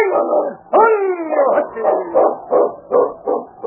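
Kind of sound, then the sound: animal, sled dog barking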